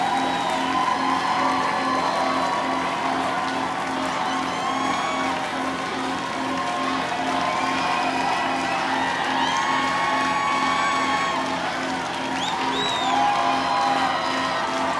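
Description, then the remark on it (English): A crowd of about 1,000 concertgoers at the 930 Club cheers loudly and continuously after a band's song, with scattered whoops, shouts and whistles rising above a dense roar that holds steady throughout, calling for more. “And this crowd of 1,000 here at the 930 Club wants more for sure.”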